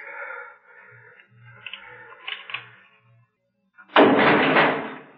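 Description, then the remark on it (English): A heavy jail door slams shut with a loud, sudden boom that rumbles and fades over about a second, preceded by quiet creaking and a few soft, low thuds. “Close it.”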